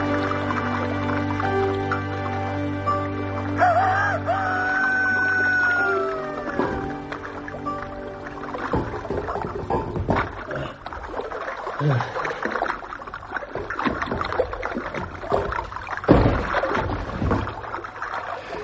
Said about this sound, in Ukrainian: Вода шумить что-то незвычайно, як гром далекий. Густо, глухо.